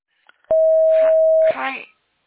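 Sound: voicemail record tone beep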